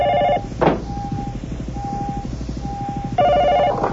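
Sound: telephone bell ringing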